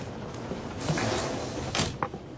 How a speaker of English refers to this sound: Oh, I didn't close the door. Sorry. I'll do it.